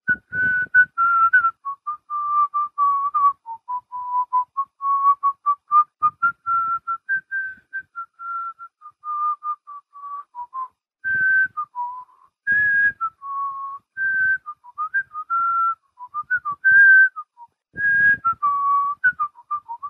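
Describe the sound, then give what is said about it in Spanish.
A person whistles a lively, bouncy video game melody alone, clear, with quick notes in a steady rhythm for about twenty seconds. “Tararéame la canción de Tetris. No la voy a tararear, la voy a silbar.”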